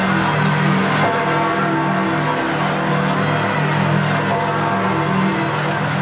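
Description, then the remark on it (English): Church bells ring continuously, their overlapping tones sustained and fairly loud, layered over the steady murmur and cheering of a large outdoor crowd, marking the election of a new pope after white smoke poured from the Sistine Chapel chimney. “Bells tolled and crowds have cheered.”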